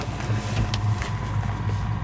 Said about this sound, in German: Ist das wirklich der Laptop, den man hört? Wir haben hier gerade nur ein Mikrofon da, deswegen ist es ein bisschen lauter.